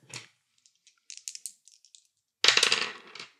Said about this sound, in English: That's a 10 on the dice. That's a 10.